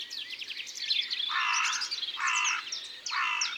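A carrion crow in the tops of poplar trees gives a series of three harsh, rasping caws at a steady pace, loud, while smaller birds chirp and twitter in the background.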